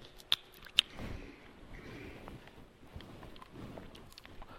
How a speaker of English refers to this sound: So let's get started here. Let me get a little bit of water.